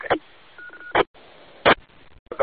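A short, steady telegraph-style CW beep tone sent over an amateur radio channel during a signal check, ringing over hissy, band-limited audio, framed by loud crackling bursts of static before and after it.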